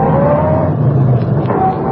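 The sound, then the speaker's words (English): A car engine roars as the district attorney's car pulls away at speed outside a hotel, a loud, steady rumble with a rising whine running through it for about two seconds, with no voices. “Linda Travis was outside the hotel when the district attorney got into his car and sped away.”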